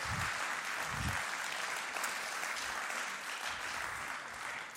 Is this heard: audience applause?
yes